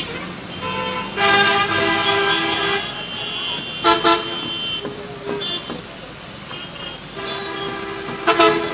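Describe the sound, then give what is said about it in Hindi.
Several car horns honk over a steady city traffic rumble, with long blasts and short bursts overlapping, including a couple of loud toots. “आप लोगों को कुछ कुछ याद भी आ रहा होगा अपने शहरों का हाल चाल, हम जब गाड़ी चलाते हैं तो ऐसा ही कुछ कुछ होता होगा, हम सब अनुभवी भी हैं।”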